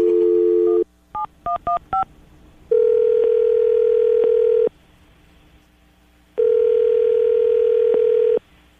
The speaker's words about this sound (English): Well, we're going to dial the phone number right now, see if we can get her on the phone, and get your second date update.